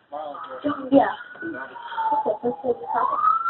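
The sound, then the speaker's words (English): Emergency vehicle sirens wail, rising and falling in the background and steady as they pass by, while a person talks over them throughout. “I hear something. Wait, hang on. I hear the sirens.”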